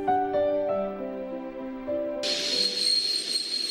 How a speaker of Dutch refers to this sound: De trein reed bij valavond het Ooststation van Budapest binnen.